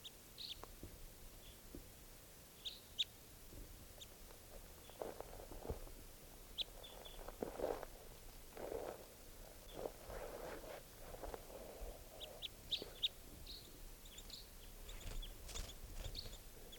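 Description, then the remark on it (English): Faint, high-pitched bird chirps and short calls come in scattered bursts over a steady low rumble and occasional rustling thumps, with no one talking. “Hear the birds.”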